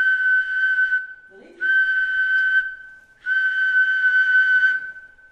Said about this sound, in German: Unterdessen ist ihrem 3D-Laden in Zürich die kleine Pfeife fertig gedruckt. Und da der Beweis, dass die selber gemachte Ware auch funktioniert.